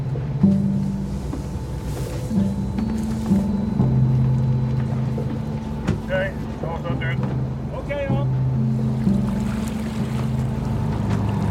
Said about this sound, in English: we're in quite a heavy swell and I'm hanging onto a ladder on the stern of the boat. I feel much more comfortable outside than inside when I can see the horizon.